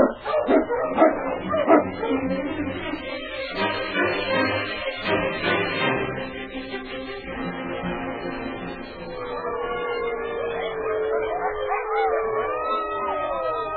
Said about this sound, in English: The wolves had followed Clark Peter's sled, coming closer inch by inch to the man who is unarmed. Their teeth bared, giving voice to the terrifying cry